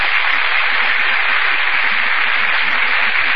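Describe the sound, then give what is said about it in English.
A sustained burst of theater audience applause for Vivian Lee and Laurence Olivier as they enter from the wings, a dense, steady wash of many hands clapping at once, holding at an even, fairly loud level throughout with no voices over it. “That burst of applause, ladies and gentlemen, is for Vivian Lee and Laurence Olivier, who have just entered from the wings.”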